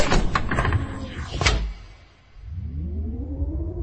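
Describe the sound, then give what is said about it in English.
A meeting room's sliding door glides shut behind a departing person with a soft, airy whoosh that ends in a muffled thump, followed by a quiet pause and then a rising electronic hum. “If only she could slam the door, but it wishes gently shut behind her.”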